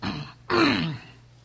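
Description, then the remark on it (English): A man clears his throat: a short rough burst, a brief pause, then a longer, louder gravelly rasp that trails off into quiet. “I'll usually clear my throat five times.”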